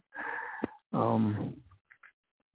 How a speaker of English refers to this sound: Here I am going, doing that yawning again.